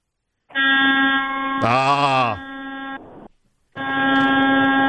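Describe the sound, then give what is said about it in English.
A loud, buzzy horn, blown by a caller phoning in to a radio show, blares in a long steady blast, joined midway by a second tone that swoops up and down. After a brief pause, another sustained blast follows. “you scare anybody with that horn?”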